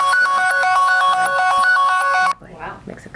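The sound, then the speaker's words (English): A bright, melodic phone ringtone plays loudly in a repeating pattern of quick tones for about two seconds, then cuts off abruptly as a voice begins talking. “I don't know this phone yet. I learned their new phone.”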